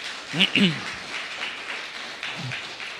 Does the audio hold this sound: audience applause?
yes